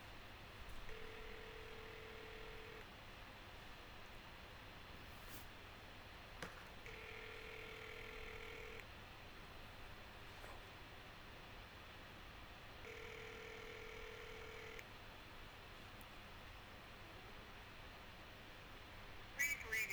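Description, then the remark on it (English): Phone ringback tone on an outgoing call from an iPod to a house phone: three steady two-second rings spaced about six seconds apart, with faint line hiss in between and no one answering or speaking. “Call to want calls tab selected. Kevin's house phone. Out. Here we go.”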